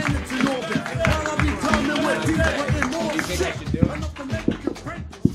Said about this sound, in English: Clap it up for Mark Norman.